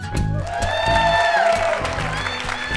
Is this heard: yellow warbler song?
no